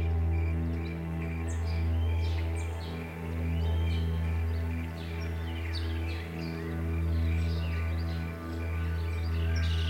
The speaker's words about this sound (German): Und dazu der Gesang von verschiedenen Singvögeln aus allen Himmelsrichtungen.